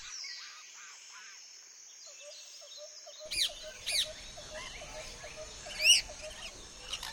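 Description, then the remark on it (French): Many birds chirp and twitter together as they swirl about in a forest clearing, with a steady chorus of calls and a few louder, sharper chirps standing out. “Après une longue marche, nos deux explorateurs arrivent dans une belle clairière remplie d'oiseaux qui tourbillonnent.”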